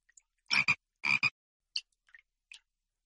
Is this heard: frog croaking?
yes